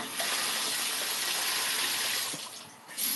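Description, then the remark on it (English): A steady gush of tap water pours into a bathtub, a loud hiss that runs without a break and dips slightly near the end before swelling again. “who wants to take a bath with shower curtains? That doesn't sound fun at all.”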